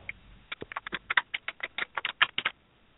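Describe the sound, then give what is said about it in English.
Quick, uneven keyboard typing: a burst of crisp key clicks and taps over a couple of seconds, moderately loud, with no voices. “That was a lot of typing.”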